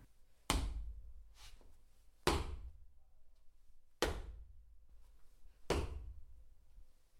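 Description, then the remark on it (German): Four heavy, booming stomps land at a slow, steady pace, each a deep thud with a short rumbling tail, separated by near silence and no voices. “Zunächst hört er ein Stampfen.”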